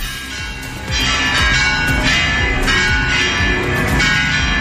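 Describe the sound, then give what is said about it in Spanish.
The bells of Oviedo Cathedral in Asturias, Spain, peal loudly and continuously at midday in homage to the heir to the throne, several overlapping strikes ringing out in a rich, reverberant wash with no voices heard. “Con el redoble de las campanas a mediodía para homenajear a la que ya es oficialmente la heredera al trono.”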